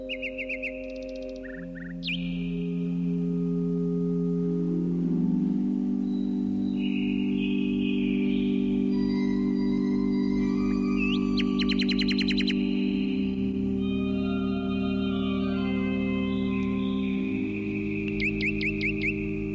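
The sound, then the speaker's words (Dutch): A nightingale sings in short, bright bursts of chirps and rapid trills, recurring throughout over a steady, sustained low musical drone that fills the background. “En ik hoop dat dat u ook helpt als u zelf in de natuur bent”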